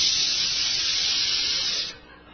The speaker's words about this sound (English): It sizzles. And just the sizzling and popping sound of a weenie on a grill, man, your mouth starts watering and your stomach starts growling.